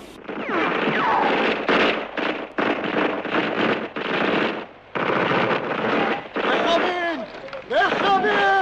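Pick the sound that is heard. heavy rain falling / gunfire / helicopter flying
gunfire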